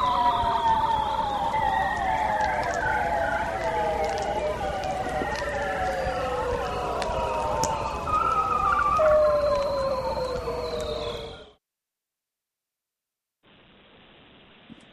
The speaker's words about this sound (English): Megan's got a little cue for us, and this is a walrus and seal sound from the ocean, so we'll play that here.